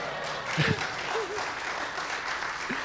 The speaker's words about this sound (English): Thank you. Oh, you don't need, no. You don't need to clap. Well, you can clap again.